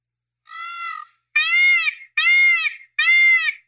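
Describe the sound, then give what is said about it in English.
A person imitates a peacock's call with four nasal, wailing cries: a softer first one, then three loud, high-pitched squalls in steady succession, with no talking. “Peacock sound like a baby with colic.”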